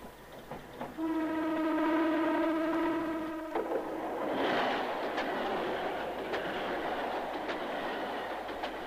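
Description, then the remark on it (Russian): A train blows a long, steady horn for a few seconds, then its rumble rolls on with sharp, rhythmic clacks of wheels over the rail joints. No one speaks. “Поезд идет.”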